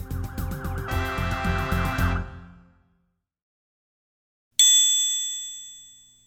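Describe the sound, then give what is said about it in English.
A fire engine siren wails in rising and falling sweeps over rapid clanging for about two seconds, then cuts off. After a short silence, one loud bright bell strike rings out and slowly fades. “Look out! Here comes our fire engine.”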